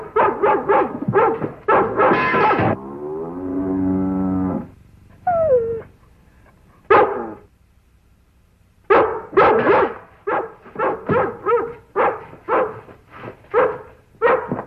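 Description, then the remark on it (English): A dog barks loudly in quick repeated bursts, with a longer drawn-out vocal call and brief pauses early on, then a rapid run of barks toward the end. “Well, I just thought if we went over to see what she was barking about”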